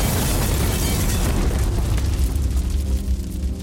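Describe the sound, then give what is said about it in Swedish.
A loud, sustained explosion roars, a dense rumbling blast with crackling debris that continues steadily for several seconds without any voices: an animation studio building exploding after a man poured liquid around inside and took out a lighter. “30 sekunder senare exploderar Studio 1.”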